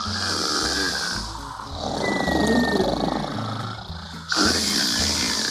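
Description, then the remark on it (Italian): Loud, deep snoring with rough, growling breaths that swell and fade over several seconds, heavy, with a low rumbling musical bed underneath. “Russava così forte da far tremare la montagna.”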